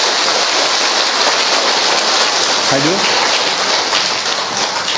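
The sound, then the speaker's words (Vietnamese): A crowd applauds with steady, dense clapping to welcome a church choir on the choir's patron saint's feast day, holding loud for the whole stretch, while a voice briefly speaks partway through. “Rồi chúng ta một tràng pháo tay để chúng ta gặp gỡ những các bạn này.”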